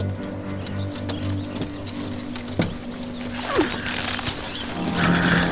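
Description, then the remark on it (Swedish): A white horse whinnies once as its rider mounts, against a steady outdoor background with a low hum and occasional clicks and shuffling, and no one speaks. “Och nu ska jag hoppa upp på min vita häst och rida vidare.”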